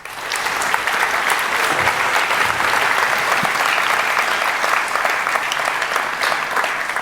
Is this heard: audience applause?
yes